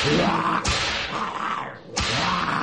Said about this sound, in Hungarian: Végül suhintottam egyet a korbácsommal, és ők hajbókolva, hátrálva kivonultak.